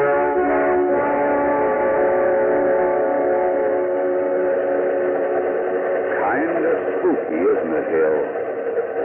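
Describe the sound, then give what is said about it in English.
A train bound for Philadelphia rolls steadily through the night with a continuous droning, whistle-like tone, muffled and narrow like an old radio broadcast, with some wavering sounds rising over it near the end. “A ghost train cutting its way through the night.”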